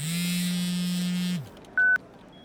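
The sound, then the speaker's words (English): A phone in an office in Hong Kong in 1999 buzzes loudly with an incoming call, one steady vibrating drone lasting over a second, then a short electronic beep. No one speaks. “Within the sleek Hong Kong offices of Investor AB, Joe Tsai's phone buzzed.”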